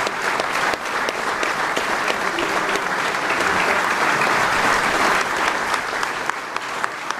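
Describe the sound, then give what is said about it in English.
Steady, sustained applause from a large audience at a ceremony, including President Trump, applauding David Bellavia: a dense wash of many hands clapping at an even loudness throughout, with no voices standing out. “President Trump among those applauding David Bellavia.”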